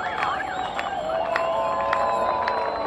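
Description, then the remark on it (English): A large crowd of almost 1,000 mostly young cyclists gathered in October waiting for a group ride to start, a dense, steady wash of overlapping voices and chatter, some ringing bike bells, broken now and then by brief sharp shouts or whistles. “This October, there are almost 1,000 participants gathered to ride and to celebrate the organization's fourth anniversary.”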